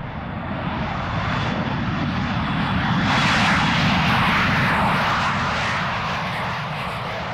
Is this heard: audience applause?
no